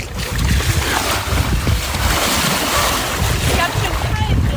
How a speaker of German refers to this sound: Ich mache noch ein ganz klein bisschen Meeresrauschen.